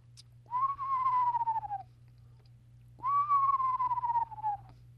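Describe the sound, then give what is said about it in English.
A person whistles an imitation of an eastern screech owl: two wavering, slightly descending tremolo calls, each about a second and a half long, with a short pause between them, clear over a faint low hum. “That includes the sound of the eastern screech owl, which I'll give a little imitation for.”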